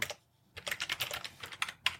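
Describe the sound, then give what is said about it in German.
Rapid clicking of keys on a computer keyboard, a brief burst, a short pause, then a longer run of quick uneven taps, clear with no voices. “Ich höre jemanden tippen.”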